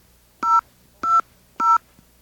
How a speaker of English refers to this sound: Okay. It's the BAI phone system striking again. Let's try it one more time. There is a problem with our touch tones.